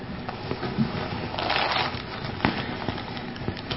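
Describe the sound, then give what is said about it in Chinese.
A crinkly plastic bag holding a bottle of water and several packs of biscuits rustles, with bursts of dry crackling and a few sharp crunches, swelling in the middle before settling into lighter, irregular handling noises. “我在这个塑料袋里面装了一瓶的水和几包的饼干，好不好？”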